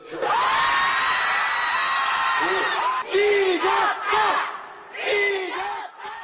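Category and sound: crowd, large crowd cheering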